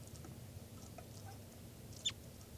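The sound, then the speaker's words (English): A test recording of bird 405: a single short, high chirp stands out near the end over a steady low hum and faint background hiss, with a few softer peeps before it. “That was a test recording of bird 405.”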